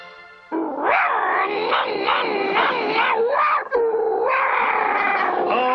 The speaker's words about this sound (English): Atta boy, limber up those legs, and remember, you're a tiger. Growl.